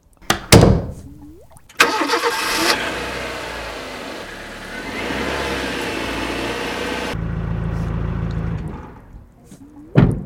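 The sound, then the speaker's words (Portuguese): A car door thuds shut, then an engine starts and revs loudly before settling into a lower rumble as the car pulls away to take a child to school, ending with another soft thump. “Entretanto, o pai já esperava no carro para o levar à escola.”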